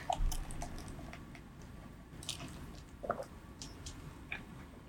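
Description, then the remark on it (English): Quiet mouth sounds of someone sipping boba tea and chewing soft, squishy, tiny tapioca pearls, with scattered wet clicks and smacks and no talking. “Are you ready to take a sip?”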